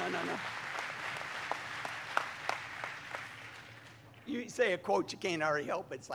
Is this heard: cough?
no